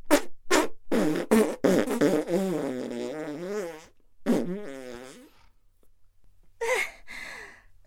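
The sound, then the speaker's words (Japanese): A voice imitates farting as the rhythm of a fart song, in a quick rhythmic series of short blasts, then stretches into longer wobbling, pitched raspberry tones, ending with a few breathy sputters after a brief pause. “あなたに書いてほしいの、あなたに聞いてほしいの、アナルの扉開いて弾けるおならリズム。 O-N-A-R-A O-N-A-R-A おならファンタスティック。”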